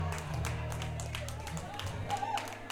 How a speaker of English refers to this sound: Clapping here, holding the drinks in between the teeth, committed clapping.